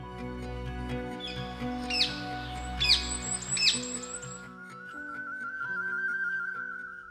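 Bird song recorded by Thierry Thomas and hosted on xeno-canto.org rings out in a few bright, quick chirping bursts over a steady low humming, tonal background, followed by a sustained higher whistle-like tone toward the end.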